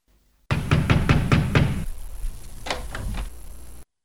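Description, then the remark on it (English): Someone knocks on a locked bathroom door, a quick run of five or six firm raps, a short pause, then a few more scattered knocks, fairly loud with no voices. “Gosh, the door is locked from inside. Who's in there?”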